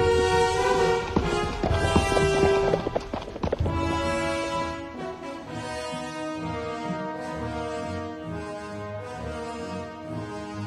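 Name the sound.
horse hooves clip-clopping away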